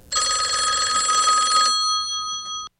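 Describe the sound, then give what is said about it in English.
An old-style telephone bell rings once in a loud, rattling burst lasting over a second, then its metallic tones hang and fade away. No one speaks. “Not every phone call is welcomed.”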